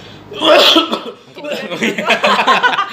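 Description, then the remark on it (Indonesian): A loud, harsh cough bursts out near the start, followed by a few more rough coughs and breathy sounds, from a person with a respiratory infection. “Jadi ada sempat ada infeksi saluran pernapasan karena tiap hari naik motor kan, nggak pakai masker, karena batuk, jadi efeknya kan ke batuk sih nggak berhenti.”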